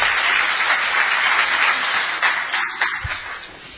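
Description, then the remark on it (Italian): An audience applauds Don Vittorio before a closing prayer, a steady, dense wash of many hands clapping, holding at a constant loudness before thinning out and fading toward the end. “Allora, prima di concludere con la preghiera, un applauso a Don Vittorio e chiediamogli una benedizione.”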